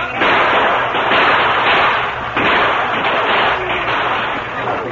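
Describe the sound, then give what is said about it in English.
Loud, continuous gunfire crackles without pause, with many shots overlapping into a dense barrage and a few sharper cracks standing out, as Apaches attack a stockade and a wagon of gunpowder is pushed inside. No one speaks. “Under cover of constant gunfire, the wagon was hurriedly pushed into the stockade, and the gates were closed.”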